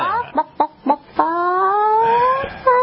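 A chicken gives four quick, sharp clucks, then a long drawn-out squawking call that trails off into another short cluck, loud with no one talking.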